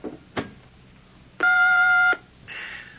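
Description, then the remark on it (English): An answering machine's playback beep as a phone message recorded last night is played back: one steady, loud electronic tone lasting under a second, preceded by a click and followed by a soft hiss of tape noise. “Came in on my phone recorder last night and...”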